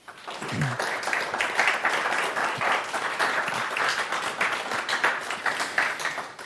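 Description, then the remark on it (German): Sustained applause from a large audience gathered in the morning, a dense, steady wash of many hands clapping at even loudness for several seconds, with no talking over it. “Und ich glaube, wenn wir in so großer Zahl hier heute Morgen zusammen sind, wir dürfen vielleicht mal den Dank und den Respekt auch mit einem kräftigen Applaus unterstreichen.”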